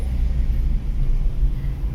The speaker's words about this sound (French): La voiture s'arrête à un feu. Puis, le feu passe au vert et la voiture redémarre.